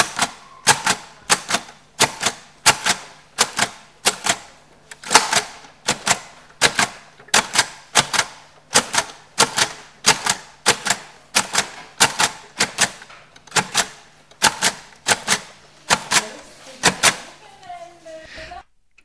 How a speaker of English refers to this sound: typing out the alphabet in Braille.